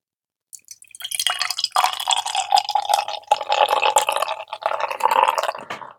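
Beer pours steadily into a tilted glass for about five seconds, a gurgling, splashing stream with fizzy crackle. No one speaks.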